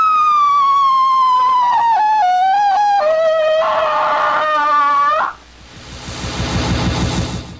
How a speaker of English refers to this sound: That was a good howl.